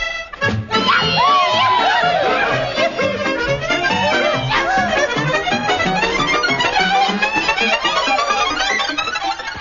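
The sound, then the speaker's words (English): A loud, continuous din of a crowd celebrating Hogmanay (New Year's Eve) near midnight at the White Feather Club in Scotland, with many overlapping voices and a steady pulsing beat running through the whole stretch. “Well, the time now is approaching midnight, so let's go up to Bonnie Scotland, where we join Andy Sporran and the crowd at the White Feather Club to see how they're celebrating Hogmanay.”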